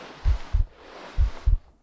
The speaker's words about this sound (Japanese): 心臓の音、聞こえますか？